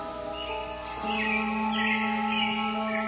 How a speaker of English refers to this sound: Birds. I should hear birds.